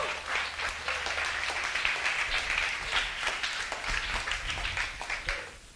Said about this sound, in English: How many of you will give a clap offering to the Lord for that?